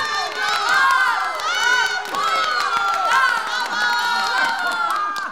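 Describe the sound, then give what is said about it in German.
An audience cheers loudly for the singer after his hit, many voices whooping and shouting together in a steady, sustained roar over a few seconds, with scattered clapping mixed in. “Und noch ein Applaus für unseren schwarzäugigen, gluthaarigen ….”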